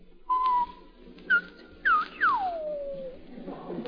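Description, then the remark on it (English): Someone whistles a short sequence alone, imitating how girls would respond to men whistling at them: a steady held note, a brief higher chirp, a quick upward swoop, then a long sliding note that falls away, all clear. “Well, when we whistled, how would the girls respond,”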